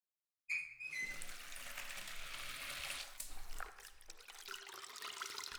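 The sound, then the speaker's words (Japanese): Water splashes and trickles steadily as a sponge is soaked in a bath to lather it up for washing someone's back, a continuous wet gurgling with a brief whistle-like tone at the start and no voices. “スポンジを濡らしていっぱい泡立てて、ふわふわにしてお背中流しますね。”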